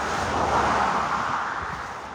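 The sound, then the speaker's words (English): A steady, fairly loud roar of road traffic rolling past in Florida, a broad continuous rush that swells slightly and then eases off, with no voices. “I'm holding up the traffic.”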